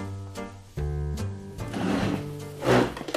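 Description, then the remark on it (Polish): A wooden table scrapes and grinds across the floor in several uneven pushes, with a low juddering drone that builds into a rougher, louder scrape near the end. “Przesuwam stół.”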